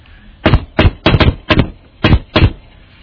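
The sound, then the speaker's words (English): A series of firm knocks on a wooden door, about six or seven solid raps in small uneven groups, loud with no voices. “That's what happens when you knock on the door.”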